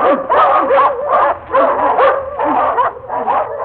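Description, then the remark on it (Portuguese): A pack of hunting dogs, just released onto the tracks at the start of a hunt, barks and bays excitedly, several voices overlapping in a loud, nearly continuous chorus of bursts and yelps, with no one speaking. “O Simão Santos, que na gira dos caçadores fora escolhido para soltador, foi logo procurando os rastros e, ao encontrá-los, soltou a matilha.”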